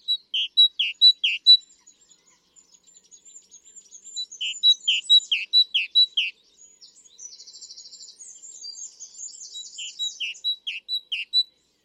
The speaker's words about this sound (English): My fourth song is the great tit, and whereas with our first three, we've had rather melodic singers who sing something different every time, with the great tit, we're with a bird that likes to get into a rhythm. Let's hear that.